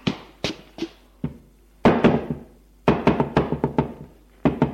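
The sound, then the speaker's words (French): Several rounds of sharp knocks on a wooden bedroom door upstairs in a house, the father's bedroom, loud and percussive, coming in quick bursts of two to five raps separated by short pauses, with no voices. “Va frapper à celle de son père.”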